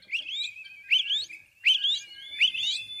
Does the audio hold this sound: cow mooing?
no